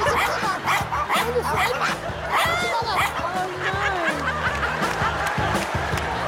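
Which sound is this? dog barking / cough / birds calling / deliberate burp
dog barking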